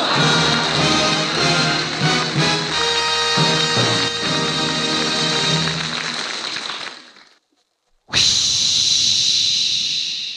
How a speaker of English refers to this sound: Friends, I think everybody in America has heard that famous sound on the radio. Listen to it again. Now, that's a jet of fresh, pure moisture.